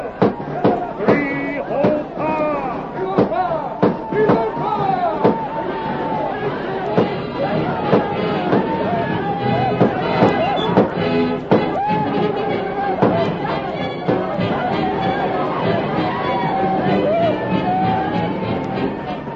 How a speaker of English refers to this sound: The outlaws thundered down upon the village, their guns blazing. The Indians, confused by the sudden uproar, tumbled forth from their tents in bewildered alarm.